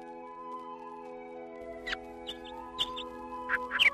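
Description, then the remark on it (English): Short, high chirps and squeaky calls of birds singing in the hazy early morning at a shore where anglers arrive to fish pop out intermittently over a steady, low ambient hum, growing a bit busier toward the end, with no voices present. “In the hazy early hours, as the birds chirp their morning songs, anglers approach the shore.”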